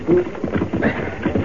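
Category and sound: animal, horse hooves clip-clopping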